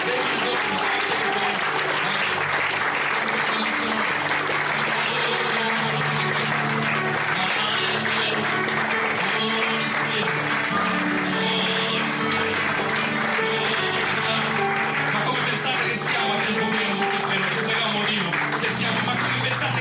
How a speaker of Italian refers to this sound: Amen. Alleluia. Alziamo le mani. Un forte applauso al Signore per questo.